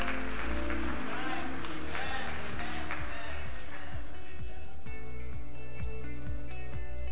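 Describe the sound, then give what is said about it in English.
An audience at Shiloh Baptist Church applauds the children, a dense, steady wash of clapping that fills the room for several seconds, with deep rhythmic thumps and a low instrumental hum running underneath. “Shiloh, give the best kids in the world a round of applause.”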